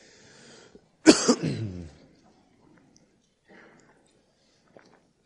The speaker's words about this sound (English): I haven't had a cough all week until we just started singing, and that last song, it just started coming back on me, so hopefully I will be okay.